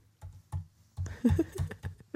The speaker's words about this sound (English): I'm typing hard on purpose. Listen.